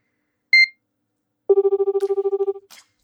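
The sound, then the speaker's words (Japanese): A short electronic beep is followed by a rapid, pulsing telephone ring tone lasting about a second, then a faint click as the line connects, during an outgoing call to the caller's husband. No voices are heard. “今から電話してあげる。”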